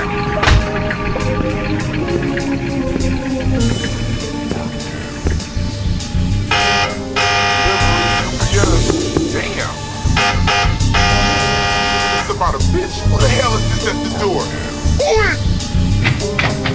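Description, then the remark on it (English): A harsh, buzzing door buzzer sounds twice, each burst lasting about a second, cutting through a dense backing of music and people talking. “Bitch, who the hell is this at the door?”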